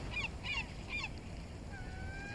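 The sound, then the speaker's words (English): Gulls swooping in the sky above a sandy beach with dunes give three quick, shrill calls in a row, then a thinner drawn-out cry trails off, all over a steady low rumble of wind and surf from waves crashing on the shore. “And you can hear the sound of gulls swooping in the sky above.”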